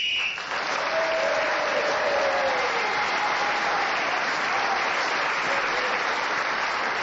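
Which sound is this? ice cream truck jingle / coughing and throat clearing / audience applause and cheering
audience applause and cheering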